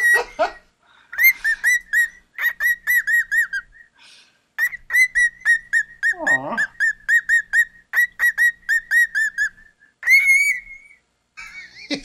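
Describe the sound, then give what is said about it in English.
A pet bird whistles loudly right at the microphone in rapid, repeated bursts of chirpy, rising and falling notes, pausing briefly between phrases before starting again. “He whistles right at the microphone.”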